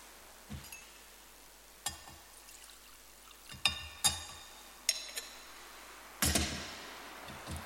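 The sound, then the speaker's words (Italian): Water is poured into wine in a chalice: several light, scattered clinks of vessels touching, then a short, soft splash of pouring near the end. Quiet, with no voices. “L'acqua unita al vino sia segno della nostra unione con la vita divina di colui che voluto assumere la nostra natura umana.”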